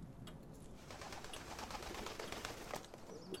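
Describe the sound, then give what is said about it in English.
Racing pigeons coo softly amid a busy ambience, with bursts of wing flapping and shuffling, a steady rustling bed of sound throughout. “You've been keeping birds a while then”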